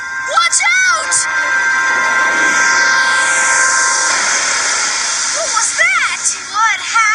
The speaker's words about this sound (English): 4, 3, 2, 1, blast off!